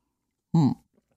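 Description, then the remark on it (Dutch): A single quick sip of tea, a short slurp with a faint throaty, voiced edge, followed by near silence. “En ik zit even te denken, ik ga nu heel even een slok thee nemen.”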